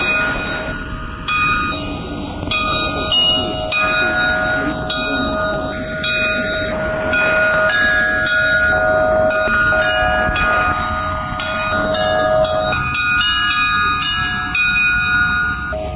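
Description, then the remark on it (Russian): Church bells rung by bell ringer Ignat Karachev opening a festival in pouring rain, ringing steadily for the whole stretch, several bells of different pitches struck in quick overlapping patterns, their long shimmering tones layering into a loud, continuous peal with no voices. “Но открывавший фестиваль звонарь Игнат Карачев как будто не замечал дождя, хотя вода лилась по сорочке и брюкам сплошным потоком.”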